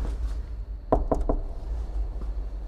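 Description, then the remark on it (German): Three quick knocks on the middle door, evenly spaced, over a steady low background hum with no voices. “Das macht dir keiner auf?”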